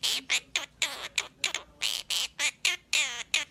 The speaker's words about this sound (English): Speaking of sounds around you, this bird is going viral. This is a little baby bird. Okay. Making a noise. It's just a bird making a bird noise, but it's going to sound very, very familiar to you when you hear it.